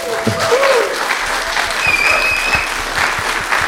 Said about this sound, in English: Well, I want to ask everyone to give a very, very warm round of applause to Rana Mitter.